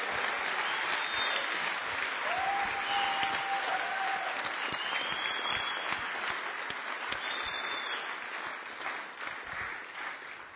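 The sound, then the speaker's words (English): Steady, dense applause from a crowd after a man's testimony about serving God, loud and sustained for about ten seconds with a few faint whistles or cheers rising above it before it gradually thins out. “Yeah, let's give them a clap, man.”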